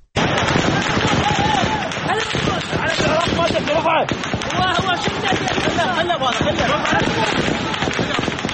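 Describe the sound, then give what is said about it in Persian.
Rapid, sharp gunshots crack repeatedly into the air, loud, over a constant roar of a shouting crowd, with the bursts continuing throughout. Security forces in Iraq fire into the air to force back protesters, who throw firebombs and stones and block streets leading to the Green Zone. “نیروهای امنیتی در نهایت با تیراندازی هوایی توانستند معترضان را وادار به عقب نشینی کنند.”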